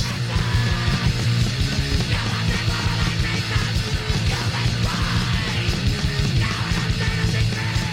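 A loud, dense wall of distorted hardcore punk with harsh screamed vocals over pounding drums and buzzing guitars, relentless and chaotic from start to finish.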